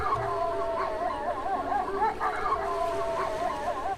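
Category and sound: animal, wolf howling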